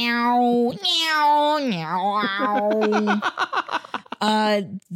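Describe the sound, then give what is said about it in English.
A meow-like instrument used in show music whines in loud, sliding tones, bending up and down like a cat's cry, then breaks into quick stuttering notes before a final drawn-out wail. “That instrument specifically, the meow instrument, they use in every freaking show just because it's a little unsettling.”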